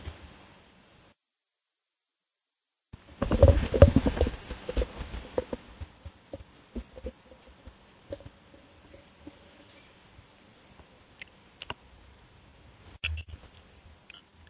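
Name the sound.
clicky computer keyboard typing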